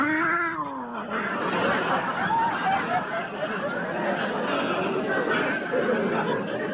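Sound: cat yowling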